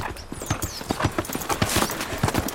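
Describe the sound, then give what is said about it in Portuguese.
Horse hooves clip-clop in a steady, uneven rhythm of sharp knocks, moderately loud, as a rider returns on horseback to a house, with faint outdoor background and no talking. “Ele desce do cavalo e entra na casa.”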